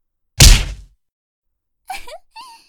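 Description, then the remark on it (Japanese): A single heavy, padded punch from a boxing glove lands with a loud thud as a straight to an unguarded face, followed after a pause by two short pained groans. “私のパンチがズポーンって先輩の顔に直撃しちゃいました。”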